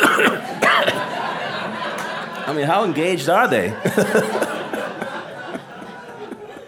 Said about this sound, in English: since you ended, I just had to clear my throat.